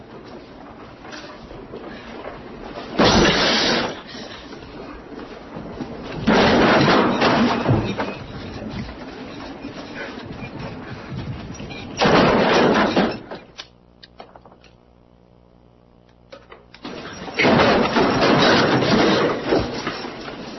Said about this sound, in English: pregnant woman head first being shoved through swinging doors.